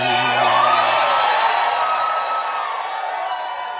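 A large audience applauds and cheers loudly, a dense wash of clapping with whoops and yells rising over it, sustained throughout without letting up, with a faint low tone fading out early on.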